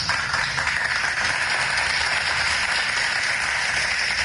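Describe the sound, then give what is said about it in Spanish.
Sustained applause from a crowd, a dense, steady wash of many hands clapping at once, loud and even throughout with no voices over it. “la verdad lo pueden hacer y esto merece un aplauso.”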